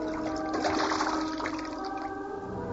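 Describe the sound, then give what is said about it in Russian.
Water churns and splashes steadily for a few seconds as a bear dives and swims in the sea, a loud, continuous rush of liquid with a faint tonal hum underneath. “Айда, пошли! Ныряй, поплаваем!”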